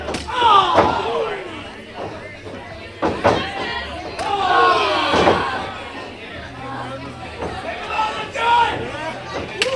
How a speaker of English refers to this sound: Pretty good just to listen on the mic, isn't that crazy? The men are just going in a circle now, slapping each other, chopping. Slap best, I like it. Chopping.